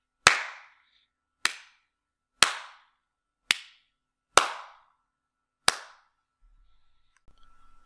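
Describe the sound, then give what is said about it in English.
Six sharp hand claps at slightly irregular intervals, each a loud crisp crack with a short decaying tail, followed by near silence with faint low rumbles. A clap test recorded with an Audio-Technica AT2005 USB dynamic microphone. “I'll now do a clap test with the Audio-Technica mic.”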